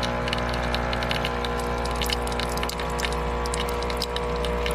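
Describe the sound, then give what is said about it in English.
A coffee maker brewing, with a steady low droning hum under irregular gurgles, bubbly sputters and short hissing bursts, continuous throughout with no talking. “It's a coffee maker.”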